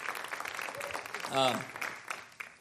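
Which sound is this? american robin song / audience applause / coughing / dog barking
audience applause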